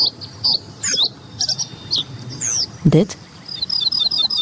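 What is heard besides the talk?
reed bunting song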